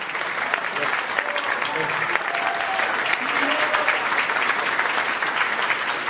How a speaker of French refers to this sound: Vous pouvez applaudir hein, Joséphine Bacon.